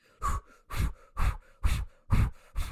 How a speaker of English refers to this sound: And then he goes into really heavy Lamaze breathing.